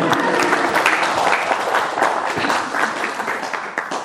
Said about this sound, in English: And out of gratitude, can we have a round of applause for my assistant today?